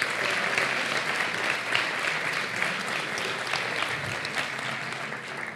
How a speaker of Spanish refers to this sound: Un aplauso para los nominados.